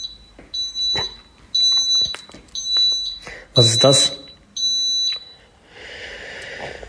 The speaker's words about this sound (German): Klingt ein bisschen erschreckend und so ein bisschen wie mein Rauchmelder. Aber hier riecht's nicht komisch, das ist schon mal sehr gut.